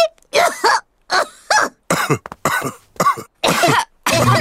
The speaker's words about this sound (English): Oh, dear. All the grown-ups have caught Pedro's cough.